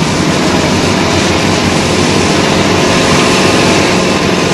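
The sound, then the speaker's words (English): Military helicopters carrying the first assault wave of troops lift off, a loud, steady engine roar with a low rhythmic throb of rotors, filling the whole clip, with no voices. “The first assault wave lifts off.”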